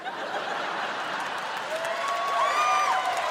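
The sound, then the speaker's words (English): A large crowd in Portland claps steadily throughout, a dense wash of applause with cheering voices mixed in and a high whistle rising near the end. “All of Portland came out to applaud.”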